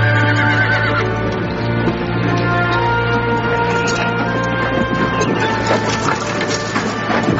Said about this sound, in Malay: Gerobak semakin jauh meninggalkan pasar Serumbu. Suatu saat, kuda meringkik keras karena jalanan menanjak.